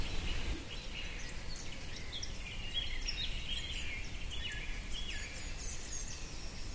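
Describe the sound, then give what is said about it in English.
Several birds chirp and sing in overlapping, high-pitched phrases throughout, fairly faint, over a steady low background rumble of outdoor noise. “When I was thinking about the man who was speaking, and I was thinking we've really got no more idea of what he's saying than we have what the birds are saying.”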